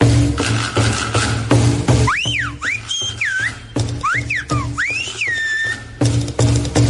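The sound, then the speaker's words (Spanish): Sharp human whistling in the style of Silbo Gomero whistled language, with a few loud phrases sliding up and down in pitch, set against a steady droning background that fills the start and end. “Este martes 1 de octubre celebramos el 10º aniversario de la declaración del Silbo Gomero como Patrimonio Inmaterial de la Humanidad.”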